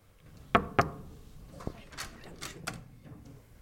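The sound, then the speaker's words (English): Two quick, firm knocks on the door of Dave Grohl's hotel suite, followed a moment later by a single softer tap, then faint shuffling and handling noises in an otherwise quiet space. “So I'm going to go and knock on the suite door now and go and say hi to Dave.”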